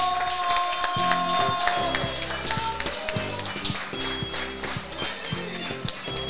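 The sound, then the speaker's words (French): An audience claps steadily and loudly for several seconds for the guests and participants of a day's event, a dense patter of hands with music playing underneath. “Je crois qu'on peut les applaudir très fort.”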